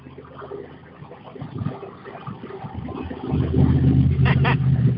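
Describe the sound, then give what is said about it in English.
Steady highway road rumble from inside a moving car, swelling into a louder, deeper roar partway through as the car passes a semi-truck on its blind side. “Yeah, this semi-truck driver probably loves me. I just passed him on his blind side.”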